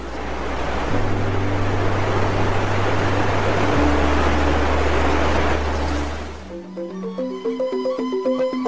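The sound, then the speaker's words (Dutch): The Canto Lampu waterfall in Bali: a steady, hissing rush of water splashing onto randomly arranged black stone steps fills the first six seconds over a low musical drone, then cuts off, leaving a soft plucked melody. “Deze treden zorgt ervoor dat het water dat op de zwarte stenen treden valt geen brul maakt, maar er van alle kanten wat speters produceert, waardoor deze waterval er erg mooi uitziet.”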